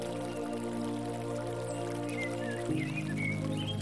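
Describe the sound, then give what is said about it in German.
A narrow brook in a forest babbles and trickles quietly and steadily, mixed with a sustained low tonal hum, while a few high bird chirps join in toward the end. “Untermalt wird der Vogelchor von dem leisen Rauschen eines schmalen Bächleins, das sich zu uns gesellt hat.”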